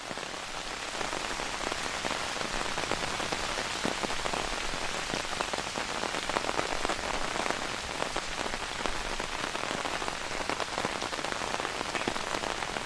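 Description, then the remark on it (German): Steady rain drums on an open umbrella, a dense, even, monotone patter of countless drops overhead that continues without a break and without any voices. “Dein Regenschirm ist aufgespannt und du hörst das monotone Prasseln.”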